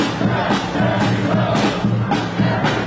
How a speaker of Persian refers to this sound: اینها طرفداران بایدن در نیویورک‌اند. فریاد می‌زنند تک تک آرا مهمند و تمامشان باید شمرده شوند. می‌گویند نگرانند دونالد ترامپ با مطرح کردن اتهام تقلب و کلاهبرداری نتیجه انتخابات را به نفع خود تغییر دهد.